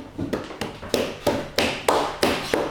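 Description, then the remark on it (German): Footsteps of someone walking to the fridge imitated by hand tapping: about eight crisp, fairly loud taps in a steady walking rhythm, with no voices. “Ich mach die Schritte.”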